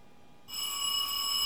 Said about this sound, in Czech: Ježiš, už zase někdo zvoní.